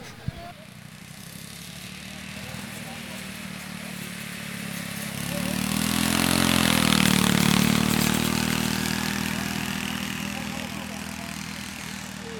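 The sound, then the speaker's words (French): Riding lawn mower engines drone steadily, with one swelling louder as it passes midway, its pitch bending, then fading back into a continuous outdoor motor hum. “Bonjour, vous avez essayé les tracteurs tondeuses?”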